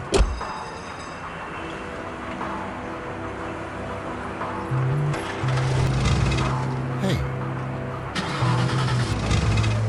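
An old car engine cranks and sputters, trying to start: a steady churning starter whir with uneven surges and a rising whine, fairly loud, never quite catching.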